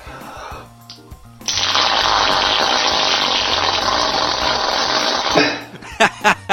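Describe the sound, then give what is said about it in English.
A loud, wet fart-like squelch sputters continuously for about four seconds, then ends with a few short spluttering bursts, as pressure on a cut under a removed bandage makes it spew pus. “What's great is not only does it make that farting sound, it's actually spewing like pus.”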